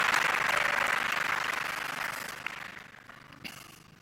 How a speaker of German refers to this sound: Applaus fürs BSI.